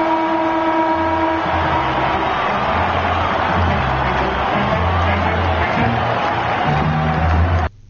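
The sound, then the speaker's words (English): The end-of-game siren at a Carlton Australian football match blares continuously at a fixed pitch, sustained loudly over a dense wash of crowd noise for several seconds before cutting off abruptly, as Carlton wins to reach the grand final against Geelong. “There's the siren.”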